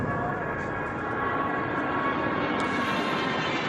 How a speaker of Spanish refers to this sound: Y de lo poco habitual de hoy ha sido el paso de esa patrulla águila sobrevolando la capital en un acto que ha querido también rendir homenaje a los sanitarios y a los servicios de emergencia en la lucha del COVID.